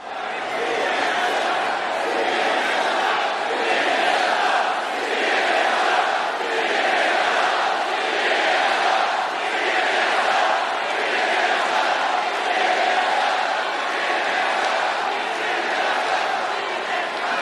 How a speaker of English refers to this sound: And within 6 minutes of the rally starting, you hear a chant begin spontaneously from the crowd that says, CNN sucks, CNN sucks. You can hear it here.